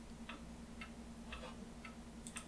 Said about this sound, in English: Plus, you get to hear the clicking of my keyboard. God, I still love this keyboard.